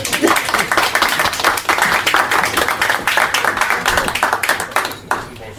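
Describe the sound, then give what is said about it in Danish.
An audience breaks into steady applause, many hands clapping in a dense, continuous patter that holds loud throughout before dropping off slightly at the end. “Vi giver dig en klap, sagde jeg.”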